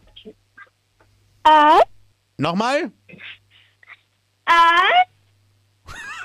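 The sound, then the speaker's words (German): A 10-year-old child from Styria, Austria, at Radinos Mini-Disco imitates a wolf, giving several short, high-pitched howls whose pitch rises and falls, with a brief spoken question between them. “Und zwar hätte ich gerne, dass du mal heulst wie ein Wolf.”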